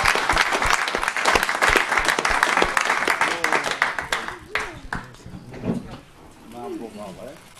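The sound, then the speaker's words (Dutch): A burst of audience applause, dense rapid clapping for about four seconds, then thinning out as people start talking over the last scattered claps. “Applaus graag.”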